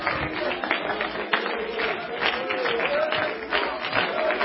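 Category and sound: crowd, audience clapping and cheering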